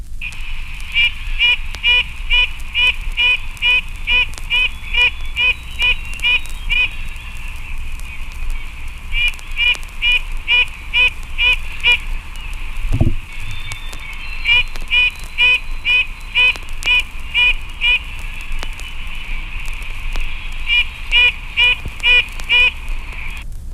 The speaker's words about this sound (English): The voice of the red-breasted nuthatch is weak and nasal.